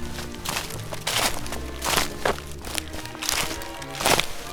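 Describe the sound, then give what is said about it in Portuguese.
Footsteps in wooden clogs crunch through dry autumn leaves covering a path at a steady walking pace, each step a crisp, rustling crackle, moderately loud with no voices; a magician walking back from the fields with his sheep on a dark autumn evening. “O Senhor Mago ia pisando as folhas com as suas socas com gemidos surdos, como fazem as folhas quando as pisamos.”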